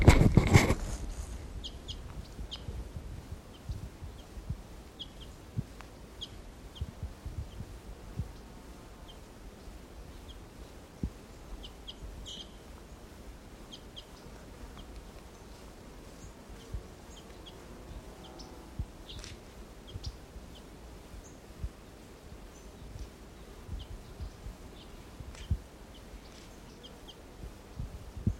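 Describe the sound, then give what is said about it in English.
Wild bird calls: scattered short, high chirps and clucks come and go irregularly over a steady low rumble, fairly quiet throughout, with no one talking. “Wild bird.”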